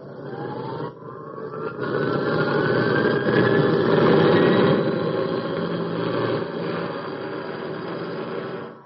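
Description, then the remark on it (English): A jet aircraft engine starts up, a whine climbing steadily in pitch over a swelling roar, then settling into a loud, constant idle that fills the whole recording. “As soon as I get set, we'll get our engine started and we'll be off.”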